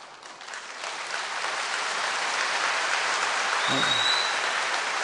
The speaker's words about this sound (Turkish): Şimdi bunu alkışladığın zaman onu tebrik etmiş oluyorsun.